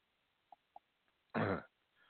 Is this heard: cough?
yes